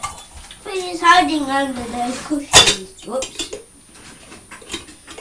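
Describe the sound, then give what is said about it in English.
Kitchen utensils and dishes clatter and clink as someone rummages through them looking for a tea strainer, with one sharp crash partway through and scattered light knocks after. A voice murmurs over the first part. “Let me see if I can find it.”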